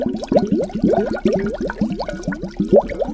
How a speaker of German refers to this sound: Wir haben halt eine Flasche und dann halt eine große Glasvase, dann halt Wasser reingemacht und dann hat es halt auch geblubbert.